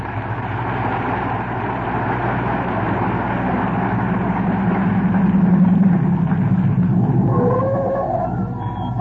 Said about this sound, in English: But just as we open their show tonight, who should be driving up in front of 79 Wistful Vista, home from their vacation, but Fibber McGee and Molly?